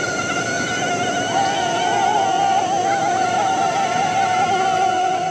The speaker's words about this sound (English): As a radio reporter, that has an extra value, because when you take that off and put it down, put your microphone on top of it, yeah, you get these really scary mosquito sounds.